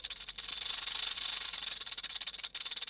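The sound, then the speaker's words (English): A steady hiss of Snake in the leaves from The Gruffalo story, a broad airy sound that runs almost continuously for several seconds with brief flickering dips, heard alone without any voices. “They walked and walked till the Gruffalo said, "I hear a hiss in the leaves ahead."”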